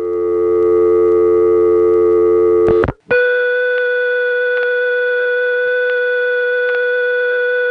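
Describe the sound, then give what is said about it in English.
A loud, steady electronic permanent-signal high tone from a Crossbar 5 telephone exchange drones on without pausing, with faint ticks about once a second, held while a line is shorted. It comes in after a brief dropout that ends the buzzy, sustained receiver-off-hook tone. “Now the recording leads to the receiver off hook tone, which leads back to the high tone.”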